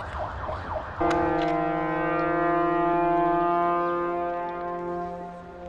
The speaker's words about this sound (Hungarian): Te dudálgozz